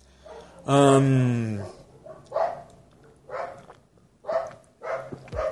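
The neighbor's dog barks repeatedly, starting with a long, drawn-out, whining bark followed by four shorter, sharp barks spaced about a second apart, moderately loud.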